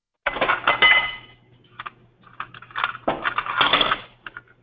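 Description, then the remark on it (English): Dishes clatter as someone does the dishes on an unmuted phone line, in irregular bursts of clinks and metallic clanks, loud at the start and again near the end, over a faint, steady low hum, with no voices. “Could you mute your phone, please, as opposed to doing the dishes or whatever else is going on?”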